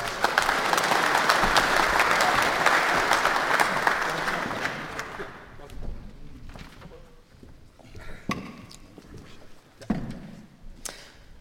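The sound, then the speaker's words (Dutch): A crowd applauds steadily, a dense wash of many clapping hands that holds loud for about five seconds before thinning out into scattered, fading claps and a few stray noises. “Mag ik een applaus?”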